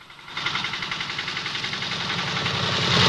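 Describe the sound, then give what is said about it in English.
A tractor engine runs steadily as the tractor rides in a large circle over newly plowed ground, its rhythmic chugging pulses repeating evenly with a broad, rough roar that swells slightly louder toward the end. No one speaks. “Outside, the tractor driver slumps face down against the steering wheel, riding in a large circle over the newly plowed ground.”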